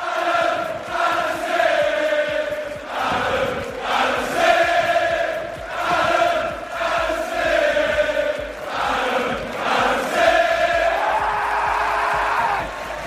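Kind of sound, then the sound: crowd, football crowd chanting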